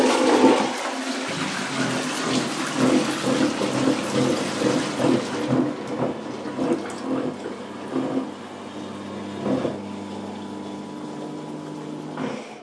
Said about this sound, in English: you know, it's a bit loud. And then you go to the toilet in the middle of the night, and then this, well, first of all, it makes a funny noise when you're sitting on the toilet, and then when you flush it, and imagine this in the middle of the night.